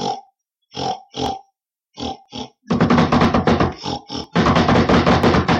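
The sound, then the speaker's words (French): A wild boar grunts a few times in short, separate bursts, then breaks into loud, continuous snorting and grunting as it charges. No voices. “Le sanglier arrive en fonçant sur lui.”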